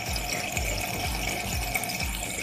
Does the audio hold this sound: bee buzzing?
no